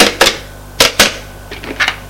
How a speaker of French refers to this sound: Elle prend son téléphone, fait un numéro.